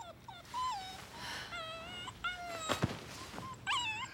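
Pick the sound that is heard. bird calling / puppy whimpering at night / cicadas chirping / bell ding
puppy whimpering at night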